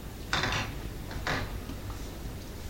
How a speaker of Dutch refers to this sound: Van een deurtje. Ja, dit is het deurtje van het zwembad zo.